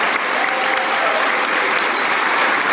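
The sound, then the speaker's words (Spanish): A standing audience claps steadily, a dense, even wash of many hands applauding at a fairly loud, constant level throughout, with no voices standing out above it, in tribute to Marcelo Rivera and others who gave their lives fighting for the environment in El Salvador. “A Marcelo Rivera, fuerte aplauso, en honor, compañero.”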